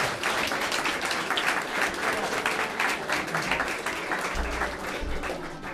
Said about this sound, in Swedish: Det är fantastiskt att få spela till en sån här härlig danspublik som ni är. Ett stort applåd till dig. Tack så mycket.